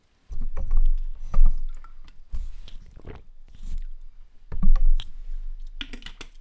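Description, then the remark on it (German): A punt boat being rowed on water: irregular splashes and swishes of the pole or oars, with wooden knocks and creaks at uneven intervals, moderately loud, with no talking. “Ich fahre den Kahn, ist gut.”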